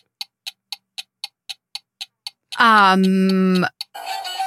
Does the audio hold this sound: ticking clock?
yes